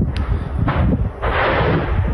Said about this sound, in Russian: Появилось и видео вот таких вот взрывов. Если вот обращаюсь к нашим редакторам, если готовы, давайте посмотрим, как детонировало вчера в Бердянске. Вот это БК уже пошел.